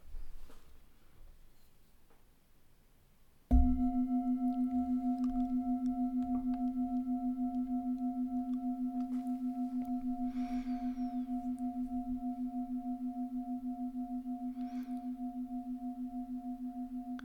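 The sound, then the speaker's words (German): After a few seconds of near silence, a meditation gong is struck once and rings on with a steady, low humming tone that barely fades for over ten seconds. “Wenn du bereit bist, öffne langsam die Augen oder du hörst noch nach dem Gong eine kleine Notfallübung.”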